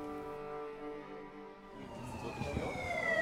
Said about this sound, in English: Can you hear the sirens, the ambulance? Welcome to Jerusalem.